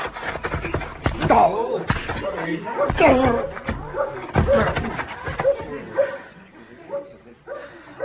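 A bare-handed fistfight between a marshal and a man named Keeler: several heavy smacking blows land amid gruff grunts and strained vocal noises, ending with a body dropping and a few quieter shuffles.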